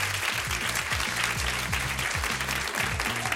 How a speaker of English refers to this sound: Seems like a great audience. Everybody, give the person next to you a round of applause for coming here today.